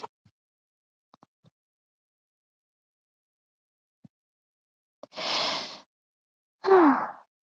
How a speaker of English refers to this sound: Did you guys hear that? That was Mochi yawning. He's like really close to the phone right now.